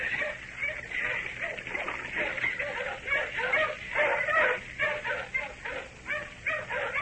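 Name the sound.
tracking dogs barking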